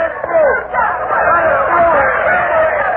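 A dense crowd choking the road during a battle, after catching sight of cavalrymen bringing a Confederate prisoner, fills the air with a steady, loud hubbub of many overlapping voices, no single speaker standing out, holding at the same level throughout.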